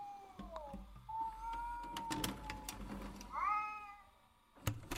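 A cat screeches in long, wavering yowls, the pitch sliding and bending across several drawn-out cries, with a few sharp clicks and clatters in between.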